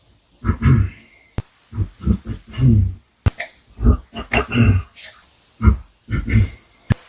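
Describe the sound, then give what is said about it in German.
A man falling asleep clears his throat over and over in a drowsy, grunting way, about ten rough guttural bursts with short pauses and a faint whistling tone in places. “Ja, ich weiß jetzt nicht, ob er sich jetzt wirklich räuspern muss”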